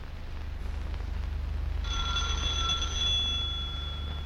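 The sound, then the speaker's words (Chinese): An electric doorbell starts ringing partway through and keeps going in one steady, shrill ring, over a low constant rumble in the background. No one speaks. “铃声之后，门开了，出来迎他的是康斯坦丁诺夫。”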